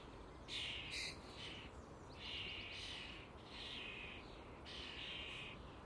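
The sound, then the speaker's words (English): A big, chubby chick squawks in its nest at its parents' beaks to be fed: four harsh, raspy, high-pitched bursts, each lasting up to about a second, over a steady low background rumble. “As soon as there's a wee egg laid in a wee nest, that there's a big, fat, chubby youngster squawking at its mommy and daddy's beak.”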